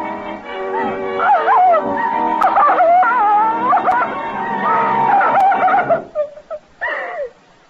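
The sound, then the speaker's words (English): A dog howls and whines in long, wavering cries for several seconds, then gives a few short, sharp yips before falling quiet. Fairly loud, with no talking. “And the dog were quiet.”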